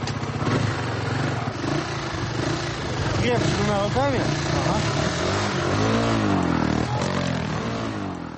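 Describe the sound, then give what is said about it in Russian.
Motorcycle engines of a Pskov bikers' club rev loudly and continuously as they give rides to children, pitch swooping up and down in repeated throttle bursts. Voices are mixed in. “Байкеры с удовольствием общаются с детьми, смотрят концерт, специально подготовленный к встрече, пьют чай и обязательно катают всех желающих на мотоциклах.”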